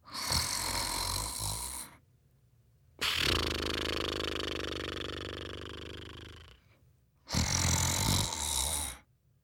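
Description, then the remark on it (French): Three loud snores, each a long rasping breath of about two to four seconds, the middle one longest, separated by brief quiet pauses, with no talking. “J'entends des ronflements.”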